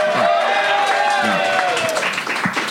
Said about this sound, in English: And when you agree with my decision, I would like for you to cheer. Give that a shot right now.